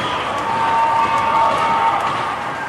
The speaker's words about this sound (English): And the crowd that you can hear in the background, a great crowd here for Bemidji.